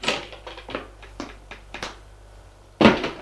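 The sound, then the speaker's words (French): Knocking on the door of a salon: a string of sharp, dry raps at uneven intervals, fairly soft at first, then a pause and one louder thump at the end. No voices. “Auguste frappe à la porte.”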